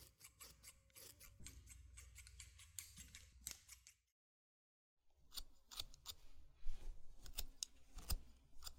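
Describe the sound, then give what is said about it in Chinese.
Scissors trim the bangs of still slightly damp hair in quick crisp cuts, a steady series of sharp metallic snips that pauses for about a second before resuming, with soft rustling of hair between cuts. “趁着头发还有点湿，可以用剪刀打理一下刘海。”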